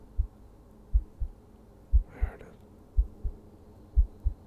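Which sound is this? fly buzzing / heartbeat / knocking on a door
heartbeat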